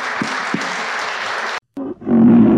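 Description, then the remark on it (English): A big round of applause: dense, crackling clapping for about a second and a half, a sudden brief cutoff, then the applause returns louder with a roaring, cheering swell underneath. “I think we should all stand up and give these guys a big round of applause.”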